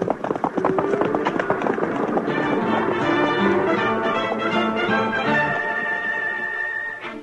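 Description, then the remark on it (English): A rumbling rush of many pounding hooves as a herd of cattle stampedes, thundering continuously, mixed with loud sustained dramatic music before fading at the end. “There go the cattle.”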